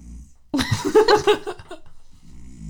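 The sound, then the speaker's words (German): A male cat that grunts instead of purring gives a throaty grunt, a single rough, gravelly vocalization lasting just over a second, with a soft low rumble before and after and no talking. “Das ist auch die einzige Katze, die nicht schnurrt, sondern grunzt.”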